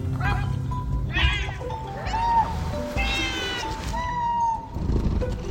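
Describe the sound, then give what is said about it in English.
A neighborhood cat meows several times in a row, drawn-out, wavering cries that rise and fall in pitch, clear over a low rumbling background. “And so every day, I walk around my neighborhood and say hello to all of the cats.”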